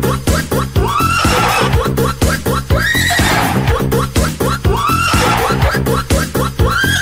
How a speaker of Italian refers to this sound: D'accordo, ma cerchiamo di capirci, Tocca adesso il cavallo, The Horse.